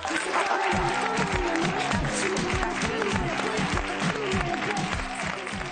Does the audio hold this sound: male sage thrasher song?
no